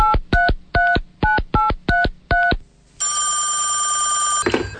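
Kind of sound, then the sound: signal or alarm, telephone dialing and ringing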